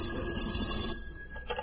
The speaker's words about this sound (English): And the phone rang.